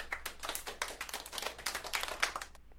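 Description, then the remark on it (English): A single person applauds themselves during a trivia quiz, clapping quickly and steadily for about two and a half seconds, a soft run of sharp, bright hand slaps with no one speaking. “So no half point, but I'll give myself a small applause.”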